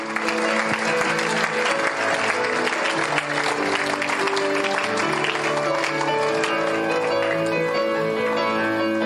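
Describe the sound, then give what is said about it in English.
An audience at a morning worship service claps steadily and loudly throughout, the many hands blending into a dense, continuous patter over sustained musical tones played by musicians. “They've stopped clapping.”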